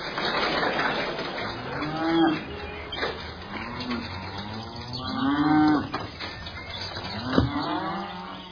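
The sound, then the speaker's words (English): A cow moos several times in drawn-out, low, resonant calls spaced a few seconds apart, over a steady rumble of outdoor background noise, with no one speaking. “what was that you were doing to that cow outside?”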